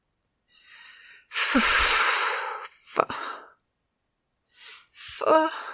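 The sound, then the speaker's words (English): Heavy, breathy panting: a long loud exhale followed by several shorter, ragged gasps and breaths, uneven in rhythm, with no talking. “Giddy with lust, I leant back into the wall. Eyes closed. Panting.”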